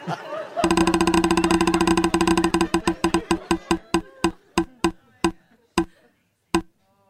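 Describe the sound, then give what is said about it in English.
A spinning prize wheel clicks rapidly at first, then the ticks gradually spread out and slow until a final isolated click as it stops. Faint voices murmur underneath. “Let's spin it one more time.”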